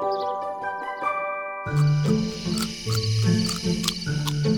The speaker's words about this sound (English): Before she knew it, the chirp of the crickets and the rush of the nearby stream lulled her to sleep.